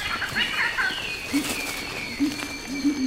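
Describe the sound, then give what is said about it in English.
Birds call outdoors in a forest: a few quick high chirps at first, then soft, low cooing notes repeating at intervals over a faint, steady background hiss. No one speaks. “Birds call.”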